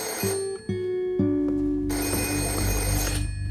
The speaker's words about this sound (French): Le 10 janvier 1929, après avoir assisté à une réunion politique, Tina et Julio Antonio s'apprêtent à rentrer chez eux quand ce dernier reçoit un mystérieux coup de téléphone.